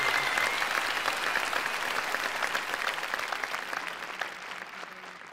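An audience applauds a song performance and its lyricist, a dense wash of many hands clapping at an even level before tapering slightly toward the end, with no one speaking over it.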